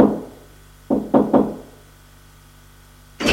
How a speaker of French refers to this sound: Enfin, il arrive au 5e. Il frappe parce que la sonnette ne marche pas.